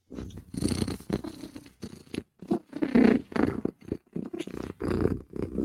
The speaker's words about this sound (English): Because this cat is purring. Cat is a happy, happy, happy girl.